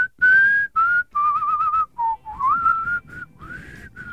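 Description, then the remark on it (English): A person whistles in a string of short, clear bursts, wavering back and forth between two main pitches with brief gaps between phrases. No one speaks. “I can hit two notes.”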